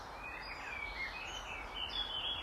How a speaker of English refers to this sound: The sound of those birds is even more evident now, because not only are they next to us, they're above us as well.